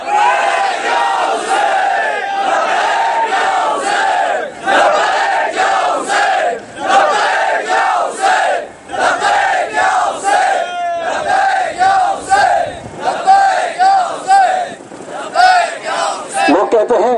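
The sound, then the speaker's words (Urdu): A large crowd chants "Labbaik ya Hussain" slogans loudly in unison, voices rising and falling in a steady repeated rhythm that carries on without pause for the whole stretch. “تو دونوں ہاتھوں کو بلند کر کے میری بات پر لبیک یا حسین کے نعرے لگانا”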